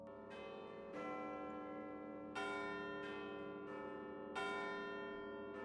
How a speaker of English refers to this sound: But at 8 o'clock that night, listeners across the country all heard the chiming of the bells at Sydney's GPO, in imitation of and homage to the clanging of Big Ben's bells in London that ordinarily began A-class stations' morning broadcasts.